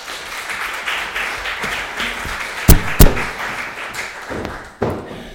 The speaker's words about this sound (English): Well, thank you very much. Let's give our volunteers a round of applause.